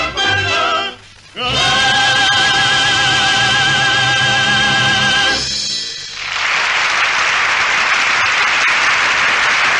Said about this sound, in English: Curtain, the mountain of bouquets, sustained applause, and then it's all over. The audience moves in a slow stream to the exit, and another night comes to an end in our musical comedy theater.